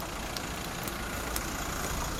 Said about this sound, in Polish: Co słyszycie w Łodzi? Gwar ulicy, gwar samochodów jadących dookoła, stukot kół tramwajów, różnego rodzaju zgrzyty, piski. Jest to taki ambient tła, który w mieście w zasadzie jest nie do wyeliminowania.